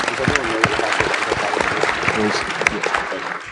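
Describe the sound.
An audience breaks into steady applause, a dense wash of many hands clapping at an even level for several seconds, with murmured voices mixed into the crowd noise.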